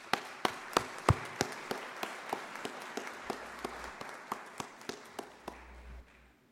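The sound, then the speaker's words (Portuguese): Applause for the first honoree of the night at an education awards ceremony: a steady run of sharp, evenly spaced claps, roughly three per second, keeping a regular rhythm for several seconds with no voices over it. “Convidamos a primeira homenageada da noite, senhora Eliane Tomazoni Silva. Uma salva de palmas.”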